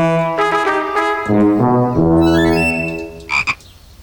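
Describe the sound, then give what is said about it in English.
Loud frog croaking from Fergal the Frog at his pond: a few drawn-out, throaty croaks that slide up and down in pitch, running together for several seconds with no talking. “Edith, can I introduce you to my good friend, Fergal the Frog?”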